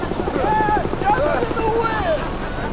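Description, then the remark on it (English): A helicopter appears and hovers above a group of people. Its steady rotor thump chops through a loud wind-like roar, and its wake covers them in clouds of scattered ash while people shout indistinctly over the noise. “A helicopter appears above them.”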